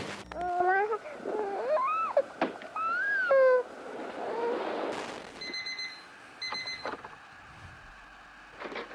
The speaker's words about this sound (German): Aha, ein Wecker.